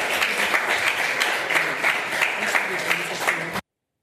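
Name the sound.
applause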